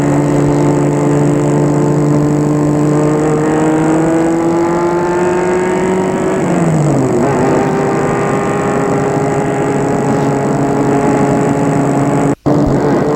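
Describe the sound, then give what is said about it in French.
A car engine hums steadily and climbs in pitch as a man drives to an appointment and accelerates, briefly dropping midway as if shifting gear, then droning on loud, with no voices. “Il va en voiture à son rendez-vous.”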